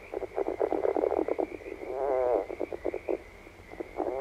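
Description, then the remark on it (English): A red-legged frog calls in a steady series of short, raspy pulsed croaks, with one longer stuttering rattle midway, clear over a faint constant background hum. “Red-legged frog?”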